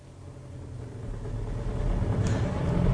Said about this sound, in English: There's a car coming up behind us, Inspector.